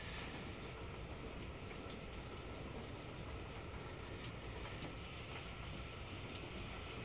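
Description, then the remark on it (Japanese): A train on the Kisei Line in Wakayama Prefecture, Japan, runs along the rails as a typhoon approaches with heavy rain, giving a steady, loud, unbroken rumble and roar that holds constant throughout, with no voices and no distinct clacks standing out. “この列車におきましても紀伊国線内雨によります規制また運転の見合わせ等発生する恐れがございます。”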